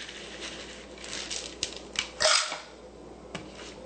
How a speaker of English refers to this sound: Okay, now I've got the seeds out of the oven, and they've cooled down, and they're nicely roasted. So I'm going to start by putting the 1 cup of sunflower seeds right directly into the food processor.